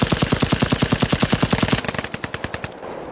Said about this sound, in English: In the opening scene, two police officers are ducking gunfire, taking cover in a building while holding two ISIS fighters captive. Just as the police are about to run out of ammo, they hear a heavy barrage of gunfire.